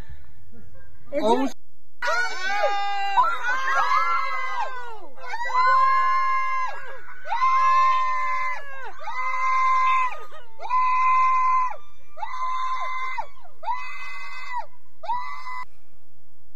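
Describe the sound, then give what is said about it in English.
A woman yells loudly and repeatedly at a black bear to scare it away, about eight or nine strained, high-pitched shouts in a row, each long and wavering, with brief gaps between them. “If I was a dude in the house and a lady was yelling like that repeatedly, I'd be running right beside the bear.”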